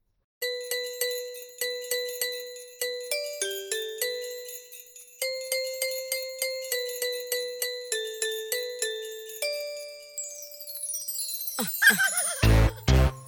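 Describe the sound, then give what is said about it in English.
A bright, chiming bell melody plays a bit of Jingle Bells in a steady, bouncy rhythm at the start of a Christmas pop song, each note ringing and fading, then gives way to a swooping, noisy burst as the music shifts near the end. No one speaks. “So it starts off with a little bit of Jingle Bells.”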